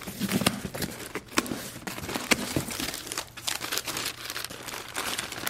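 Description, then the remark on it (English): Crisp crinkling and sharp snipping clicks as scissors cut open a cardboard box in a kitchen, with irregular bursts of rustling and a faint tearing, heard alone without talk. “In her kitchen, Sloane uses scissors to open a cardboard box.”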